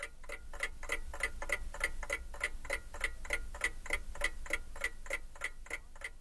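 An alarm clock ticks steadily on its own, about twenty crisp, evenly spaced ticks at a brisk rhythm, with a faint low hum underneath and no voices.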